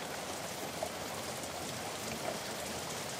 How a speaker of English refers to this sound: The birds aren't singing in the forest today because it's raining.